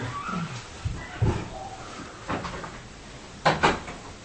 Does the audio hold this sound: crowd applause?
no